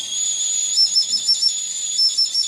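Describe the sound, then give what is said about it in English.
A tiny bone flute, more than 12,000 years old and no more than 3 inches long, made from a prehistoric bird bone found in northern Israel, plays thin, piercingly high whistling notes, held steadily with slight wavering and brief shifts in pitch, over a breathy hiss, with no voices. “We close today with the sound of a flute that is more than 12,000 years old.”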